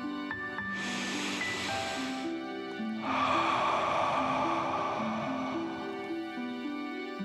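A deep breath drawn in through the nose, then a longer, breathy exhale out the mouth during a guided deep breathing exercise, fairly loud over soft, steady background music.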